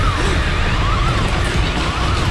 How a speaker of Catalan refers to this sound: Ara sona l'alarma prèvia al descens total del sostre del pis.